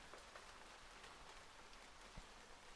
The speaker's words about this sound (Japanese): 静かですね。雨音しか聞こえません。